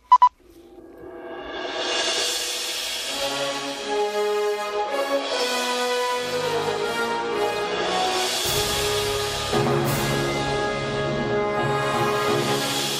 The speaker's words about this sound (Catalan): Fact to the Future, una sintonia grandiloquent per una secció molt grandiloquent